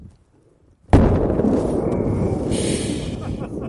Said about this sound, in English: The world's biggest aerial firework was a fiery fail.